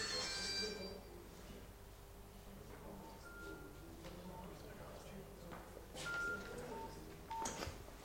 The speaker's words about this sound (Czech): Omlouvám se, normálně nikdo nevolá na ten mobil, ale bohužel.